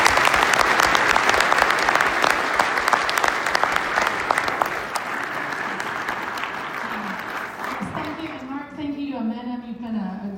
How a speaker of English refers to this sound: Thank you for spending time with us this morning. Everyone, please give that a round of applause.